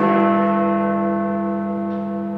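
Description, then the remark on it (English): A single deep, resonant bell strike from Big Ben in London rings out loud, its rich harmonics sustaining and slowly fading with no voices present; the noonday toll that began two minutes of nationwide silence across Britain on the 80th anniversary of VE Day. “The noonday toll of Big Ben's bells began 2 minutes of nationwide silence across Britain, broken by the fanfare of trumpets.”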